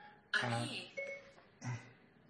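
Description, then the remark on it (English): A phone's Siri voice assistant activation chime rings out clear, a short series of bright electronic tones with brief pauses between them, triggered by mistake by the speaker's talk. “stupid phone. Siri thought I was talking about it.”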